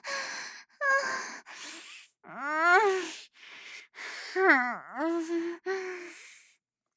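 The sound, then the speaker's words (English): Loud sniffing and heavy breathing come in a series of short, breathy bursts, mixed with a couple of drawn-out voiced moans. No words are spoken. “I wanna sniff your balls, can I?”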